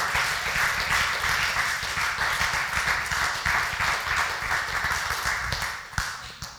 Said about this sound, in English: Come on and give God a clap offering right now.